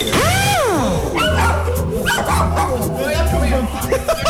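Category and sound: animal, dog barking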